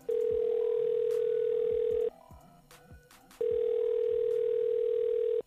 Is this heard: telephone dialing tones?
yes